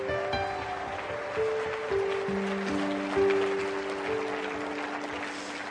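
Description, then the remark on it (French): A crowd claps steadily, applauding all that God can do through them, in a dense, noisy wash that lasts throughout, while sustained keyboard or organ chords hold underneath. No voices stand out. “Quelqu'un devrait applaudir tout ce que Dieu peut faire à travers nous.”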